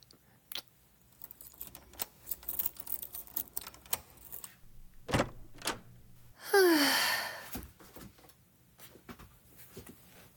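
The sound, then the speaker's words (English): A door opens: scattered small clicks and knocks, then a loud, brief creaking sweep with a rising squeak, followed by a few more soft thuds. No one speaks. “Open the door, asshole.”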